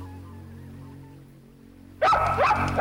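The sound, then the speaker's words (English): A small dog breaks into sharp, high-pitched yapping barks after about two seconds of quiet background hum. “And very, very posh lady with a little dog.”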